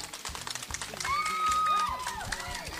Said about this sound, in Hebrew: יש לנו פה הרבה מאוד ילדים, שקודם כל, כדי שתבחינו, כדי שתשימו לב כמה ילדים נחמדים יש לנו כאן, תנו מחיאות כפיים, ילדים.